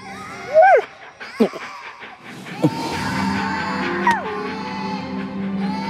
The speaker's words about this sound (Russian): Здесь нет ни одного ребенка. А я все слышу детский плач. И где он плачет?